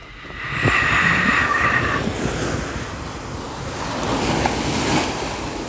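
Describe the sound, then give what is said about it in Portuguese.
A steady wash of surf rolls and hisses, swelling and easing as waves break, with a faint high tone drifting over it early on. No one speaks. “Mar.”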